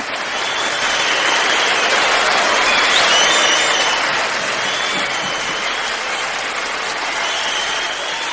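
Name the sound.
applause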